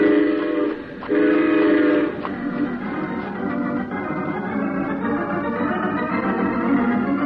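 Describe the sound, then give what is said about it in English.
A train pulls in with two loud, sustained horn blasts, then a steady rolling rumble and clatter of the cars carries on. No one speaks. “Let's be sure we're on that train when it pulls up.”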